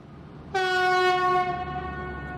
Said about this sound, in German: Schon nähert sich mit ohrenbetäubendem Hupen jener Zug